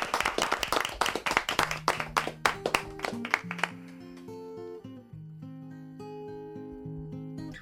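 A burst of crowd applause, dense rapid clapping for about four seconds, fades out as a melodic instrumental intro with sustained notes rises underneath and carries on alone.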